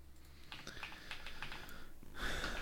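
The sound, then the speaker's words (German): Quick, light computer keyboard typing of a Google search for the weather in Berlin, a short burst of key clicks at a moderate pace, ending in a louder rustle or breathy noise; no one speaks. “Geh mal bitte bei Google und gib mal ein Wetter Berlin.”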